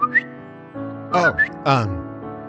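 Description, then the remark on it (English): A person whistles an imitation bird call: a few short rising chirps followed by warbling, sliding notes in bursts, moderately loud, with no other talking. “Didn't want to scare you, so I guess I just made a bird noise.”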